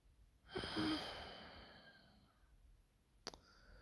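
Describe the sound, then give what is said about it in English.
A single soft, airy exhale swells quickly and then slowly fades over about two seconds, followed by a brief faint click. No one speaks. “But yeah, just thinking about falling asleep, cuddled up to someone, just hearing their soft breathing, just lulling me to sleep.”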